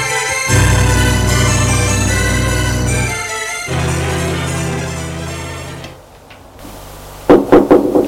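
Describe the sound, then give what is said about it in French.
Sustained orchestral music plays and then fades out, followed by a brief pause and four quick, sharp knocks on a door in a tight rhythm. “On frappe à la porte.”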